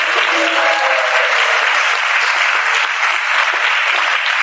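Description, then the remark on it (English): Sustained audience applause, a dense steady wash of many hands clapping at an even, loud level throughout, with no pauses and no voices standing out, a round of applause for Maharaj's secretary at a gathering. “So another round of applause for him.”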